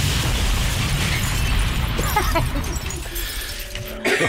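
A loud, rumbling explosion as Channel 10's traffic helicopter is shot out of the sky and goes down. It roars through the whole clip, with crackling, clattering debris in the middle, a brief steady tone near the end and a final sharp burst.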